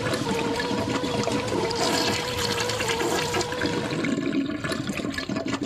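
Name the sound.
toilet flushing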